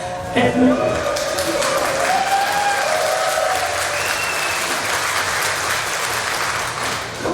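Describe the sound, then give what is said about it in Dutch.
An audience applauds steadily for the whole stretch, a dense, even wash of many hands clapping at constant loudness, with faint voices and a few whoops mixed in early on. “Anders moet je zo lang blijven klappen en vindt niemand leuk bij je de handen.”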